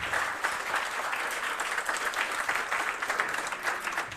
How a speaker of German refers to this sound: Applaus nochmal für die erste Gruppe hier, die den Auftakt gemacht hat.